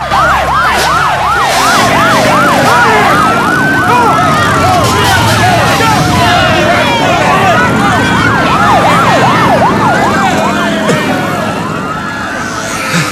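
Police sirens wail and yelp loudly and continuously as cops arrive at a street race in an underpass, with several rising-and-falling tones overlapping, over a dense rumble of traffic and commotion as the gangs disperse.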